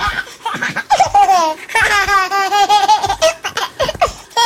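A baby laughs in bursts of high, squealing giggles, the laughter continuing on both the in-breath and the out-breath, fairly loud with no talking.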